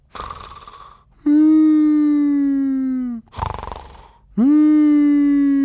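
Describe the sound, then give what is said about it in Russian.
Two loud snore cycles, each a rasping breathy inhale followed by a long, drawn-out whimpering moan on the exhale, sounding plaintive and mournful, apparently a human voice imitating the snoring of Uncle Julius. “Но потом дяде Юлиусу приснился, видимо, кошмар, потому что его храп стал звучать так жалобно.”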